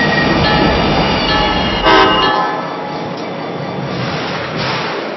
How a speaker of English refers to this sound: Southbound train number P607 from Mangonia Park is now arriving.